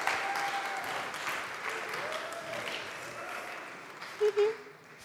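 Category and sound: crowd, audience cheering and applauding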